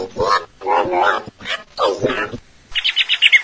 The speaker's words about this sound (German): unser Papagei